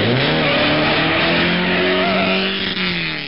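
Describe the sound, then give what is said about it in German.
The engine of a self-built formula race car, from a project with Deggendorf participation, revs loudly and steadily, its high whining pitch rising then settling over a few seconds, with no voices. “Formelrennwagen selbst gemacht.”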